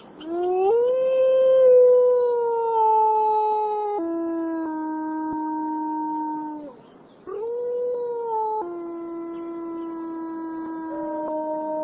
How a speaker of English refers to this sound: Sometimes the wolves would howl at night when we were sleeping, and they would kind of talk back and forth to each other, like, are you there? I'm here.